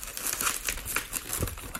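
Rubber balloon being twisted into a balloon animal: a steady run of squeaky, crinkly rubbing and creaking bursts, fairly loud, with no talking.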